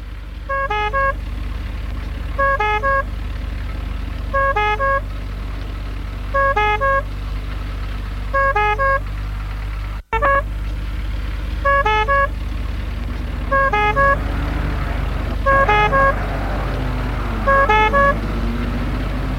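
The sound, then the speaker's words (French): An ambulance carrying a patient from a helicopter landing pad to a clinic drives by with its horn sounding in a steady, repeating two-tone pattern over a constant low engine rumble. It is loud, with no one talking. “Et l'ambulance le mène à la clinique.”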